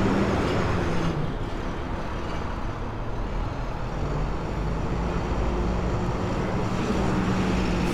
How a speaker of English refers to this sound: Big ass white panel truck making his way in the world.